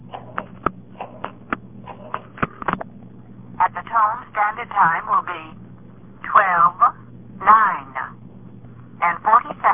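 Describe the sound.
A quick series of short touch-tone beeps as the time-of-day number is dialed on a direct-dial phone, followed by a thin, telephone-filtered voice talking over a steady line hum.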